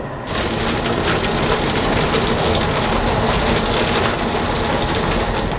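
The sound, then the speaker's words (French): A chicken plucking machine, a kind of pulley with hooks, strips the skin from two slaughtered chickens that were scalded in boiling water. It runs with a loud, steady rushing and whirring roar that kicks in after a brief moment and continues unbroken, with no voices. “Et là, le son qu'on entend, en fait, c'est une manière d'éplucher le poulet, de lui enlever toute sa peau, quoi.”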